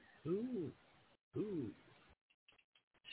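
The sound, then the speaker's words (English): A person imitates an owl with two drawn-out, low hooting calls separated by a short pause, clear, followed by a few faint clicks and bumps. “Who? Hoo-hoo. Said the L.”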